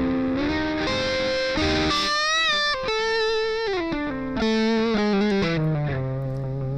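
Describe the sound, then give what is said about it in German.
A distorted electric guitar plays a sustained, singing melodic line with bent and sliding notes, fairly loud throughout, its distortion easing when played more softly, with only slight shifts in intensity and no one talking. “Dynamisch aber. Die Verzerrung geht runter, wenn der leise spielt.”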